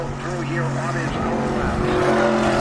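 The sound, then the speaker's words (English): A loud, throaty vintage Corvette race car engine roars, its steady droning pitch dropping and shifting midway as the car sweeps past turn one, just past the start-finish line, during vintage car races at Canadian Tire Motorsport Park (Mosport), the engine noise continuing strongly to the end. “Another Corvette.”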